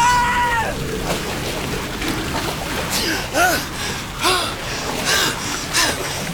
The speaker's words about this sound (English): A wave swamped us. A gush of scalding, stinking vapor shot up nearby. And we were half suffocated as we were tossed helter-skelter into the white, curdling water.